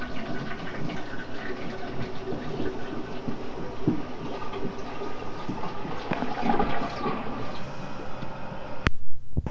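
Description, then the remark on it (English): A toilet flushes with a steady, loud rush of water that carries on as the tank refills, ending with a sharp click just before the noise cuts off. “Daddy, flush it real good and then I'll open it up and you can play in it.”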